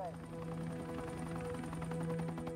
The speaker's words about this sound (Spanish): State Line, Nevada, año 1980. Un helicóptero del FBI vuela por la autopista 50 buscando una señal.